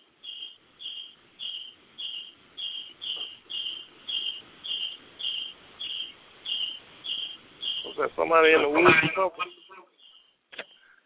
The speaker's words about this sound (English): Somebody in the woods. No, see, you hear crickets and shit? Yeah, that's all. Man, that close to us, man.